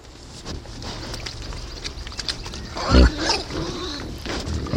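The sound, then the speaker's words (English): A low, guttural grunt stands out around the middle of a busy outdoor forest ambience, preceded by softer rustling and rooting noises, with a wild boar snorting. “Aha. Wildschwein.”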